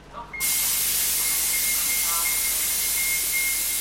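The 37 city bus pulls into the Lawrence Transportation Depot in Massachusetts and the driver opens the door, with a sudden, loud burst of air hiss that starts abruptly and holds steady, broad and bright, with a faint high whine running through it.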